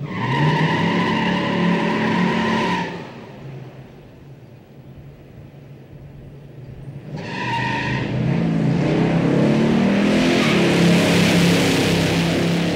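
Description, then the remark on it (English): A power-shifted Boss 9 drag car roars off the line with its tires spinning, a loud screeching squeal layered over the engine, then a quieter lull before a second hard launch with more wheelspin and rising engine roar. “First two times I lit the tires up a little bit too much. The last time it hooked up just nice.”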